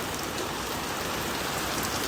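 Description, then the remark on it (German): Heavy rain pours down in a storm that has gone on for hours, a steady, dense hiss, with countless drops drumming without pause. No voices and no thunder are heard over the constant downpour. “Oh, ich weiß nicht, ob man es hört, aber hier ist gerade das krasseste Wetter.”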